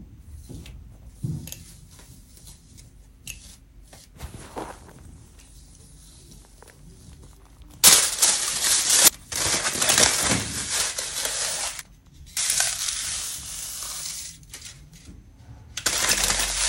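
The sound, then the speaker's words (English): Aluminum foil crinkles and rustles as it is put all over staticky hair in the viral TikTok foil static hair hack, a few faint crackles at first, then loud, sustained, harsh scrunching in bursts with brief pauses. No one speaks. “Trying the aluminum foil hair hack.”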